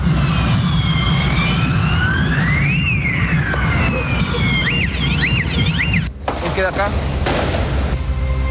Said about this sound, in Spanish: Ahí ustedes escuchaban entonces cuáles eran las características de los petardos, las bengalas, los fuegos artificiales que se utilizaron, hay que decirlo, lanzándolos de manera vertical pero también horizontal hacia Carabineros,